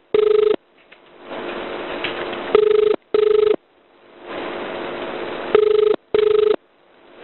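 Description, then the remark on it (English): A telephone ringback tone on an emergency call being connected to a number in Queensland, heard down the line, repeating in a steady double-ring pattern with a hiss of line noise between the rings. No one speaks. “Won't be a long corner, that number's ringing for you.”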